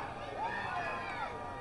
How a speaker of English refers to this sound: Whistles to first base. Not in time. And Batista Jr. is on. The crowd doesn't like it.